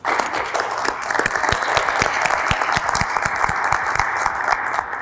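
Steady audience applause, a dense wash of many hands clapping at a sustained, fairly loud level for several seconds, with no voices standing out.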